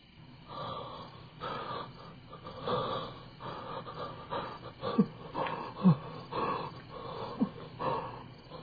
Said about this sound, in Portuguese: A ausência de luz, o ruído da respiração agonizante e o pavoroso silêncio fazem